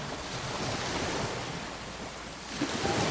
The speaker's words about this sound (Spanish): La cueva de Liono. Que no estaba preparada para resistir esa trompa de agua de un río tan grande.